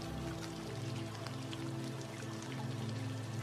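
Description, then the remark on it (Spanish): Steady, soft rain falling continuously, a dense patter of drops with a low, even hum underneath and no voices. “Deleítate en esta agradable sensación, sintiendo cómo la lluvia en el exterior limpia en tu interior todo aquello que no necesitas.”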